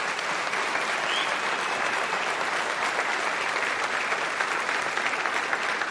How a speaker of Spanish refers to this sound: Dale un aplauso al Señor, que Él se lo merece.